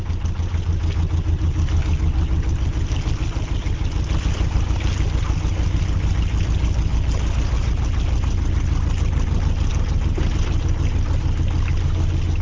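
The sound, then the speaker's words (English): A low diesel engine of a canal barge in Birmingham chugs steadily and continuously, with a rhythmic throbbing and a faint watery wash beneath it, holding a constant loud level throughout. “No, it's a canal barge in Birmingham, actually.”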